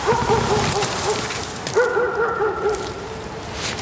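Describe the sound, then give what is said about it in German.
A sled dog team pulling a single sled over a hill across wind-carved snow under a high sun whines and yelps in two rapid, overlapping bursts of high, wavering cries, steady, with no talking. “Es ist Piukatuks Hundeteam”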